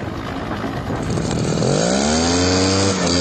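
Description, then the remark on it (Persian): A chainsaw roars loudly and steadily as it cuts down trees during a forest fire to keep the fire from spreading to neighbouring areas. Its engine pitch climbs sharply as it revs up partway through, then holds a high, strained whine as it bites into wood. “صدای اره‌برقی هم برای قطع درختان به گوش میرسد.”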